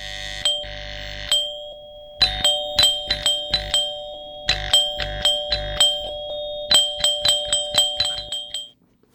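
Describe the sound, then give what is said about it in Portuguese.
An electronic home doorbell rings over and over, its bright chiming tones repeating in rapid bursts with short pauses, loud, with no one speaking. “No sé, es que a veces suena mucho el timbre de casa y ya como que lo escucho en mi cabeza.”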